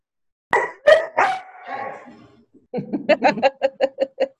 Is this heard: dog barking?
yes